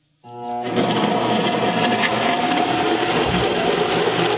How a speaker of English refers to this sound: Okay, now that we've blended up our dressing, we're going to go ahead and put it into a mason jar.